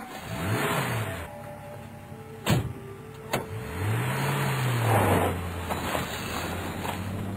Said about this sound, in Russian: Вскоре он оказался в машине, в тепле и уюте. Она несла его так быстро, что слышался свист рассекаемого воздуха.